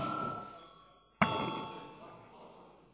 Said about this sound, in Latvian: Es aicinu, tad lūdzu zvanu.